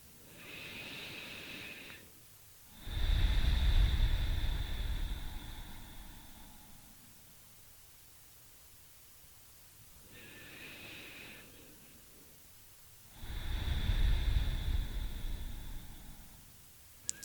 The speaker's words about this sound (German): Wir fangen an und nehmen ein paar tiefe Atemzüge. Und atmen durch die Nase ein und durch den Mund aus.